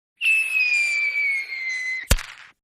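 A firework rocket whistles loudly for about two seconds with a slowly falling pitch, then ends in one sharp explosion that quickly fades. No one speaks.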